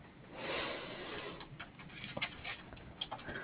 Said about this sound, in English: Yeah, I've just been typing notes.